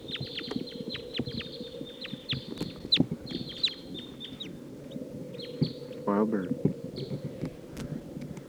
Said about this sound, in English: Sounds like maybe more wild birds are coming. They are taking off. Wild bird taking off to the south. Circling around. Wild bird.